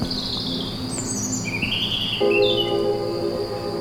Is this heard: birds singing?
yes